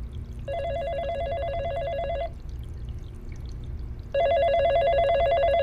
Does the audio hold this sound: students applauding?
no